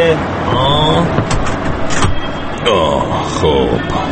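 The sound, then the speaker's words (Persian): A heavy truck engine rumbles steadily from inside the cab as the vehicle moves, a constant low drone running under the voices of a radio reporter and the truck driver talking. “آره به جون شما، تا حالا ماشین سنگین سوار نشده بودم من.”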